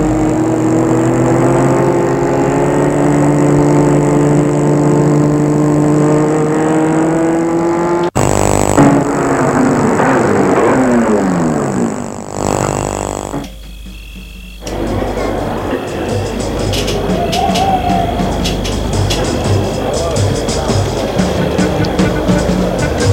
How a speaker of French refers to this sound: Ils ont garé la voiture. À côté des autres voitures.